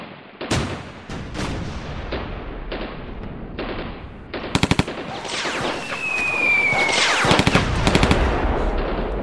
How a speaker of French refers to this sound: Et en plus, ils dormaient sous la terre, et leur seule berceuse était des coups de feu, des explosions et des cris de douleur.